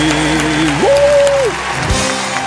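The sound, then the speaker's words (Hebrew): A crowd applauds during a live broadcast on Radio Kol Chai, a steady, dense wash of clapping, with a single sustained tone rising and holding briefly over the noise before fading. “איפה מחיאות כפיים”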